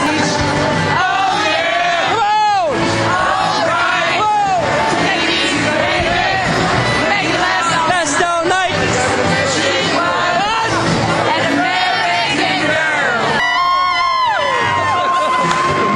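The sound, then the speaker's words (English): A loud concert crowd at night cheers and chatters continuously, with overlapping voices, shouts and whoops rising and falling in a dense, steady wall of noise. “Star-studded crowd here tonight.”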